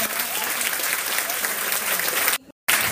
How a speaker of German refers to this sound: Das finde ich ist auch nochmal ein Applaus wert.